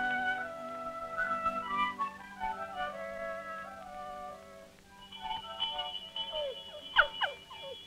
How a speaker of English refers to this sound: Do you hear that sound, dog? That's one of the best sounds there is. A farm dinner bell.